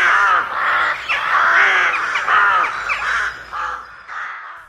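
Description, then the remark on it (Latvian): Rooks caw over one another in a continuous, overlapping chorus of harsh, raspy calls, loud and busy throughout, with no voices. “Mans ieteikums vienmēr ir bijis tomēr mēģināt ar krauķiem sadzīvot un varbūt novērtēt, ka kāds putns ir gatavs dzīvot mums līdzās, lai gan mēs paši esam daudz, daudz skaļāki un daudz, daudz netīrīgāki par krauķiem.”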